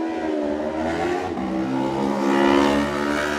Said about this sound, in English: Next up, Adam McLean on the Flitwick Motorcycles Yamaha. He's away.